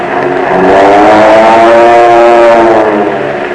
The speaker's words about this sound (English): Today, your Army Air Force has planes that sound like, well, listen.